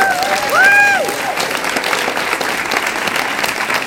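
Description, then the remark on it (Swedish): A crowd claps in a steady, dense patter of applause that carries on throughout, with a brief rising whistle-like tone near the start over the clapping. An audience is applauding the opening act at a comedy show about sex, held with RFSU Malmö. “Så ge en applåd till förspelet”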